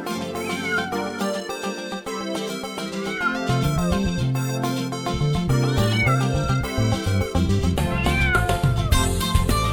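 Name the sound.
cat meowing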